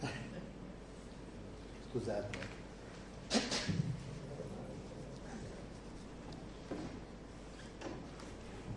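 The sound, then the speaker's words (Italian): Someone blows their nose in a short, forceful, breathy burst, followed by faint rustling and shuffling. A voice briefly says a word of apology. “Detto questo, mi fermo, mi devo soffiare il naso.”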